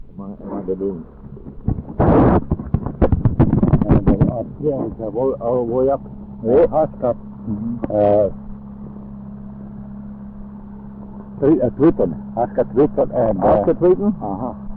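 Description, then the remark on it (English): An engine-driven water pump at a mine drones steadily at a low, constant pitch throughout, feeding a nozzle that washes down the overburden, with bursts of louder clatter and voices talking over the hum. “The engine they're running here is a water pump.”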